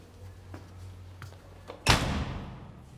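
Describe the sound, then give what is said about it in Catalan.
A few faint clicks over a low hum, then a person opens a door at a stairway landing wider to let someone in, with a sudden whoosh and thud that lingers and slowly fades. “l'Ivan s'aparta i obre més la porta per deixar-lo entrar”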